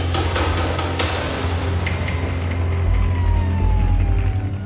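A fire engine rumbles with a heavy, steady engine drone, while a faint siren tone slides downward in the background. No one speaks.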